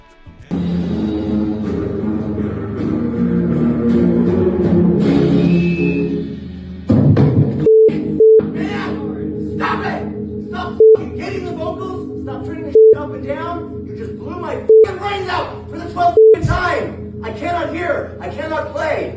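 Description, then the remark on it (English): Electric guitar feedback rings out as a steady, sustained tone beneath people talking, with a brief higher-pitched squeal partway through, while the music and voices carry on loudly around it. “This goofy ass guitar made a feedback right there at the very end.”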